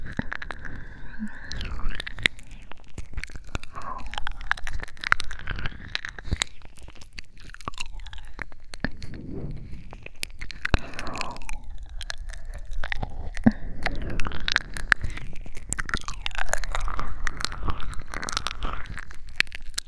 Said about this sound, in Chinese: 嚼嚼耳朵，就这么受不了啊？